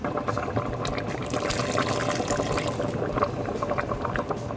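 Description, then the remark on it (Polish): Previously prepared broth pours steadily into a cooking pot holding diced pumpkin, pepper, tomato, potato and water, a continuous splashing and gurgling of liquid that fills the whole few seconds without any talking. “Dokładnie tak, a na samym końcu zalewamy to wcześniej przygotowanym bulionem.”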